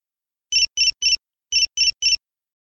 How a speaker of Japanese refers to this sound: 握りしめていた携帯が鳴り、速度を落としてメールを開く。